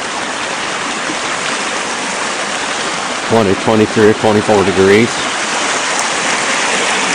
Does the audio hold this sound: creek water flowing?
yes